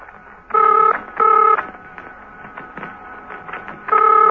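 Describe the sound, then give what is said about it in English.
A telephone, Steed's, rings in three loud, buzzy bursts, evenly spaced with short gaps between, over a faint background hum and no voices. The call is being made by Colonel James from Old Hill Monastery. “While they were in the process of passing each other, Steed's telephone was ringing.”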